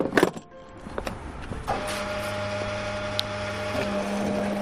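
At a petrol station, a few sharp clunks and clicks of a fuel nozzle give way to a steady, humming motor drone with a low tonal whine, as a pump runs continuously to fill a car's tank.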